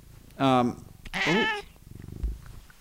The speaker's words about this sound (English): We got a kitty for you. It's been a while since you had a good cameo. Listen to the sound of this pleasant purrs.